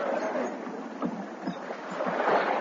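A rowboat carrying a ship's captain and crew is rowed by men through choppy waves, steady sloshing and splashing with faint rhythmic oar strokes about every half second, moderately loud.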